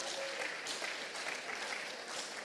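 Steady audience applause dedicated to a thirteenth-century writer, a dense crackle of many hands clapping at an even level throughout with no voices standing out.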